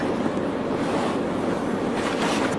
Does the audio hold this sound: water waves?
yes